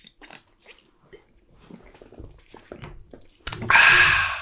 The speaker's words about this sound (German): Prost, ja. Jetzt erstmal einen Schluck Alkoholfreies.